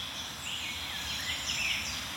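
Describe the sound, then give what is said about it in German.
At least four small songbirds, Grasmücke (Sylvia) warblers, sing at once in an overlapping, continuous tangle of high chattering phrases over a steady background hiss, with no talking. “Dafür ist die Grasmücke ja auch bekannt.”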